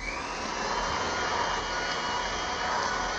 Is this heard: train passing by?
no